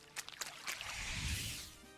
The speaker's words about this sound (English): I hear ocean.